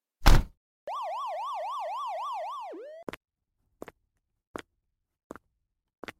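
A police car siren wails in a fast up-and-down pattern for about two seconds after a sharp burst, then winds down, followed by a few evenly spaced clicks.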